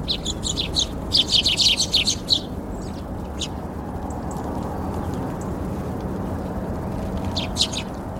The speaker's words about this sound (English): They hop about the lawn and zip up and down to the feeders. These little birds are doing fast laps. They fly up, balance on the perch, grab some seeds, straight back down again.